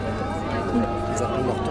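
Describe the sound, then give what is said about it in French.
Many students chatter at once, conferring among themselves to set their rhythm before the start of a Dragon Boat race, in a steady, dense murmur of conversation, with no single speaker standing out. “Les élèves se concertent entre eux. On entend tout le monde.”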